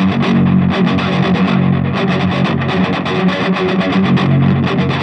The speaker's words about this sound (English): Something like that. Yeah. So it's just like a kind of a crunch sound that's boosted a little bit.